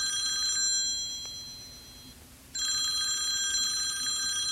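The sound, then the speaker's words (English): A telephone rings on an outgoing call to a high school: a bright, buzzy ring tone that fades into a pause, then starts again and carries on steadily. No one speaks. “She sighs, picks up her phone, and dials the high school.”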